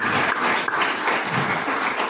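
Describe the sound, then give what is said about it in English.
An audience claps steadily, a dense, even wash of many hands at a constant moderate loudness for the full two seconds, with no voices rising above it, applauding the announcement of a ship repair and dry docking facility at Takoradi Port, Ghana. “The minister rightly pointed out that this deserves a special clap.”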